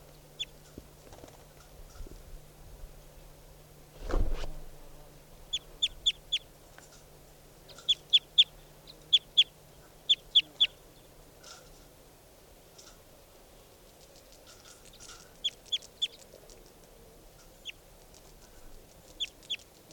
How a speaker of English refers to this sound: Recording bird. 490.